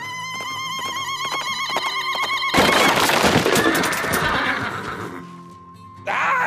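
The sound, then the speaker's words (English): A horse lets out a long, loud, quavering whinny, followed by a rough, breathy burst of snorting and a shorter tonal call at the end. “No, Ferda, it means, horses.”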